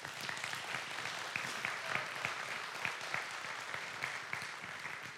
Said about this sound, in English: Yeah, you clap for that.